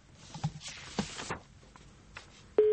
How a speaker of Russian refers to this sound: Набираем или не набираем? Что происходит? Звоним. Звоним, да? Первый гудок.